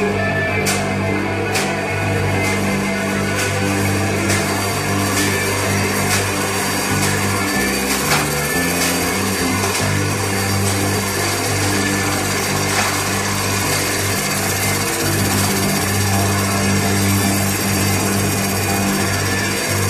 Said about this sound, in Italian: In questo momento, sul palco veniva distrutta una TV. A martellate!